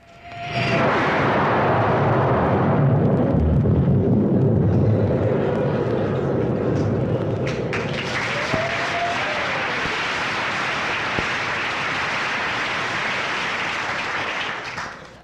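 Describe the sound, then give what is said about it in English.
A person's vocal imitation of a low-flying jet plane: a loud roar rushes past, a deep rumble at first that gives way to a harsh, sustained hiss as it sweeps by, with no talking. “Water gurgling when you pull the cork out of the bottle. Booze. And low-flying jet planes.”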